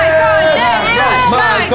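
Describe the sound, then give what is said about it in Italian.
A loud, steady roar of a packed stadium crowd, many voices shouting and cheering over one another in a dense, unbroken din for just under two seconds. “Lo stadio era pieno di? Di persone. Che facevano un gran baccano.”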